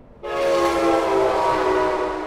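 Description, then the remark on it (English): A train horn blares very close and loud, just a few feet from the door of a home beside the train line, one sustained, harmonically rich blast held for about two seconds over the broad roar of the passing train. “I knocked on their door to ask what it's like for them to live that close to the train”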